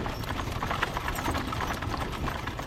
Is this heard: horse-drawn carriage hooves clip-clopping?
yes